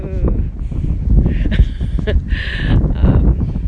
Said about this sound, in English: Winds aren't quite so bad now, but the gusts occasionally come along.